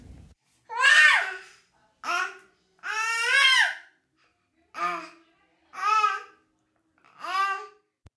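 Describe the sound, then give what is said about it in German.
A baby who has just woken up fusses and babbles downstairs in a series of six short, wavering cries and whimpers separated by brief pauses, clear, with no adult talking. “Ich höre es nämlich von unten weinen.”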